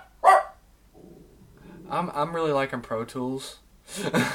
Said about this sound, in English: Good dog. Yeah, keep barking. Keep barking, bud.